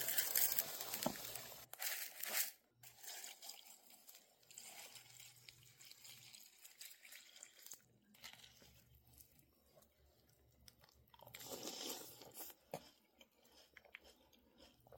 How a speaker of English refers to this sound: eating fruity pebbles.